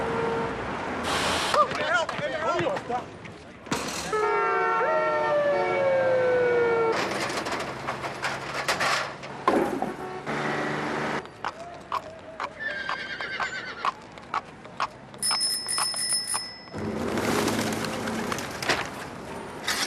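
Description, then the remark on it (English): A busy city street, a dense, loud jumble of overlapping noise: traffic roar, rising and falling siren-like tones, a horse whinnying with clopping hooves, birds, and scattered voices. “A jumble of noises. The city is so alive, it roars. There are so many sounds, they ricochet off the sidewalks and buildings.”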